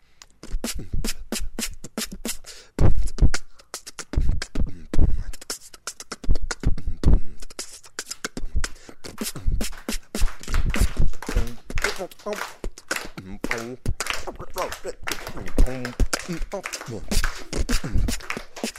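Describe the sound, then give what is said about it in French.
Beatboxing performed by a single voice, a musician performing on request during a radio program: fast, punchy percussive bursts of kick thumps, sharp clicks and hissy snare-like sounds, with some hummed or buzzed tones woven in, loud and continuous throughout. “Vous avez entendu, donc moi je fais un peu de beatbox”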